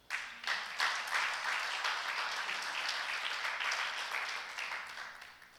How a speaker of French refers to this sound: Applaudissons cette parole.